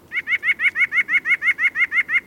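A white-breasted nuthatch, a petite songbird, sings a fast, steady series of about a dozen clear, nasal notes that sound a bit like laughter, with no other sounds around them.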